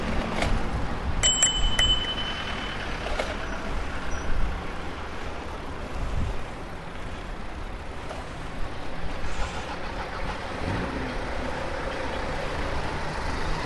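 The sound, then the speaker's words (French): A bicycle bell rings a few quick times near the start, bright, as a cyclist rides along a bike lane with cars parked on it, over steady street noise with passing traffic rumbling in the background. “La petite sonnette qui va bien.”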